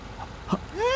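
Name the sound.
van engine idling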